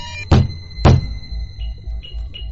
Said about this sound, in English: But a few well-placed thumps and